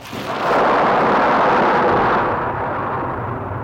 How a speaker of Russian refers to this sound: Шалаш на краю степи. Буря продолжается.